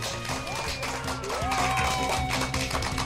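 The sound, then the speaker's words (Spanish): Steady crowd applause with dense, continuous clapping that stays at an even level throughout, with some tonal cheering or whistling mixed in. “Un aplauso por eso.”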